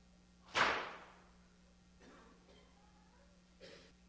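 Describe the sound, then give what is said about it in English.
A single sharp, loud whip crack snaps out near the start and rings off quickly, followed by a couple of faint, softer sounds in the quiet that follows. “Are you hearing whips cracking on the back of the Savior?”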